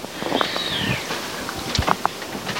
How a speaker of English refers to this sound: So I'll come to the last room of the house and I'm going to strangle that bird if it doesn't stop screeching.